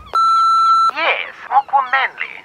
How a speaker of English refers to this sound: A phone message while I was out? Let's check the machine.